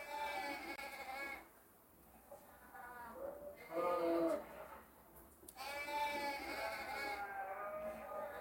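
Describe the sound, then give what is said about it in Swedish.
Sheep of a flock bleat repeatedly and loudly in a video posted on TikTok, several wavering cries overlapping one after another with short dips between them. “I en annan film som lagts upp på TikTok-kontot har ett begravningståg klippts ihop med bilder på en fårskock och bräkande läten.”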